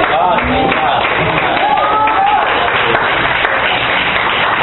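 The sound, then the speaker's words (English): An audience claps in a dense, steady wash of applause that holds for several seconds, with scattered voices and shouts rising through it. “Oh yes, you clap now, but I don't know that you will clap later.”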